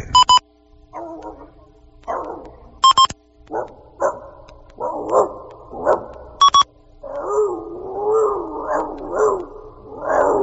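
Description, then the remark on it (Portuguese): Five dogs about two kilometres away bark and yip in a busy, overlapping run of calls that grows more continuous toward the end, punctuated by three short electronic beep tones. “Ao toque de 5 cachorros a 2 quilômetros.”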